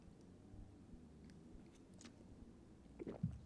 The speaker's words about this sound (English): Let me take another sip of coffee.